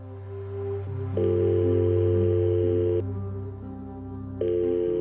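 An unanswered call's electronic telephone tone sounds steadily over a low, sustained drone as a call to Bengt goes unanswered on Friday 22 March 2013. The pitch shifts a few times, with no pauses and no voices.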